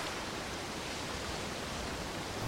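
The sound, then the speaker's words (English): A steady, unbroken roar of sea waves, a dense hissing wash of surf that holds at an even level throughout with no distinct crashes and no voices. “Just the sea at the end of the world.”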